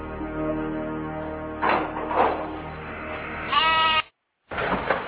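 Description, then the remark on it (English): A lamb bleats repeatedly in wavering, quavering cries, with a sharper high-pitched bleat near the end, a brief silent gap, then more bleating. “Oh, I see you've brought a boy and a lamb.”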